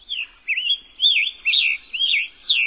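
A tropical migrant songbird, perched among the branches of the summer tree canopy, sings alone and clear, delivering about five short, slurred, warbling phrases in a steady rhythm with brief pauses between them.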